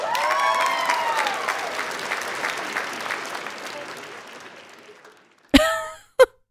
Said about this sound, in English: But could we just hold for applause?